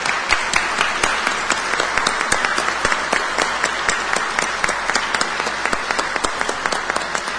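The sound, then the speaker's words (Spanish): Sustained applause from a council gathering bidding farewell to the outgoing city president, dense overlapping claps forming a steady, loud wash of sound with no voices over it, lasting the full length without fading. “Entonces yo sí quisiera que aprovechar para que este consejo le demos un fuerte aplauso a Chuy y lo despidamos como se merece al presidente de la ciudad.”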